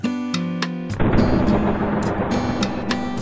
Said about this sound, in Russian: Грома раскат, как финальный аккорд симфонии.